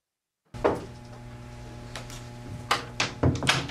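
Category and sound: household object, bathroom door closing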